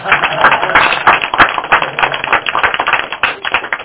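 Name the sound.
audience applause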